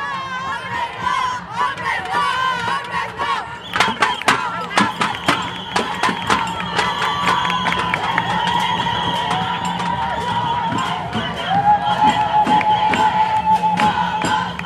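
A large protest crowd in a women-only contingent chants and shouts slogans together, loud, with rhythmic bursts of clapping or banging and a steady roar of many voices throughout.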